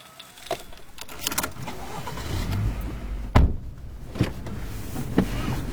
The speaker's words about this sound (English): Back in the car now, and just going up the hill to the Jewish settlement, Tapuach. It's just a short drive.